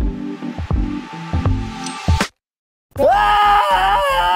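A loud, strained human yell comes in two long bursts split by a brief gap of silence. The second burst wavers in pitch and sounds more forceful.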